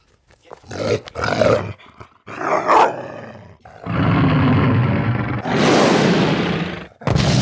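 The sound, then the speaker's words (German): A dachshund's bark at a perceived danger that comes out as a deep, harsh roar instead, repeated in several loud, drawn-out bursts, growing longer and more sustained, with no one speaking. “Dackel, ganz und gar aufgehend in der Rolle als sich selbst völlig überschätzenden, erbosten Schutzhund, der eine Gefahr verbellen will und sie verdammt nochmal auch verbellen wird, öffnet seine Schnauze und bellt.”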